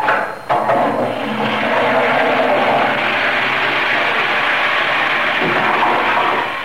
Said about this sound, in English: Gale force winds now registering 10 on the scale are at present battering the MV Mi Amigo with sickening results.